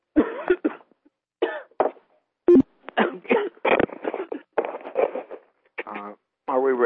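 A person coughs repeatedly in short, irregular bursts, close to the microphone and fairly loud, with several harsh, throaty hacks spread over about seven seconds.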